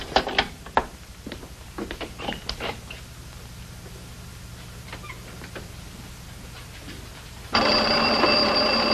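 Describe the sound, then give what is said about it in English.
After a few scattered clicks and knocks, a telephone suddenly starts ringing near the end, rung as if a call were coming in from outside, a loud, steady bell ring that carries on to the close. No one speaks. “Ring this phone as if there were a call coming in from the outside.”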